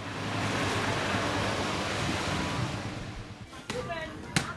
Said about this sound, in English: The villagers that are working here, stripped to the waist and sweating as they slosh the beans around in these huge tubs full of water next to these massive oil barrels with wood fires smoking underneath them.